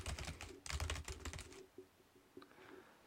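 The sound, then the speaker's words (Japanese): Rapid clattering keystrokes on a computer keyboard, a dense burst of clicks for about a second and a half, then a few sparser taps trailing off. Clear, no voices. “キーボードをカチャカチャしてみます。”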